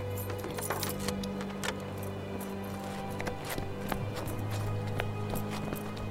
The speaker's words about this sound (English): Look, I'll leave the keys here.